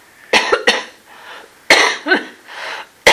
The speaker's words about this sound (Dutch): Oh, nou is het een echte hoest.